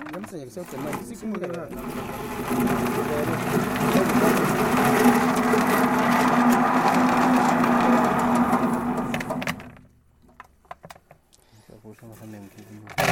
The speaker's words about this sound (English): The machine is made in a way that it separates the husk from the coffee. So the coffee comes in front as the husk goes behind.